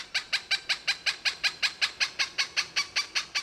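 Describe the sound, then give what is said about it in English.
A Cooper's hawk calls out a rapid, steady series of about fifteen harsh, nasal cak notes, evenly spaced, with no other voices or background sounds. “Historically persecuted as chicken hawks, for many years, Cooper's hawks were in steep decline due to hunting and the effects of DDT on breeding.”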